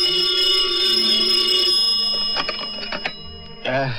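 A telephone rings very late at night with a steady, high, buzzing bell tone that holds for about two seconds, then fades into a few sharp clicks and clatters, like a handset being picked up.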